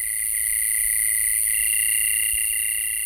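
A loud, unbroken chorus of crickets trills steadily at several high pitches throughout, dense, with only a faint low rumble beneath and no voices, at a diocesan retreat site with cabins.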